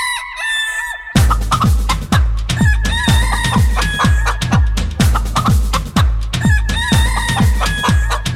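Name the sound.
rooster crowing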